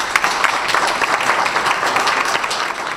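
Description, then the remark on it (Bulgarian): Steady applause from an audience at an awards ceremony in Haskovo honouring the best athletes of 2013, many hands clapping densely and evenly for the whole stretch at a fairly loud level, with no voices standing out. “Техният труд и спортни постижения заслужават нашите овации и аплодисменти.”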